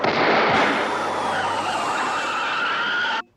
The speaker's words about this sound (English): One is the tire blowout, the other that precedes it might be a gunshot?